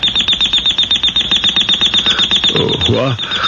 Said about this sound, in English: What? The alarm, honey.